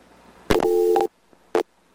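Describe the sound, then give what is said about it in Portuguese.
A telephone busy tone sounds after a dropped call to a guest on the programme Passaporte: a loud, steady electronic beep lasting about half a second, then silence and a second, shorter beep. No one speaks. “Caiu novamente”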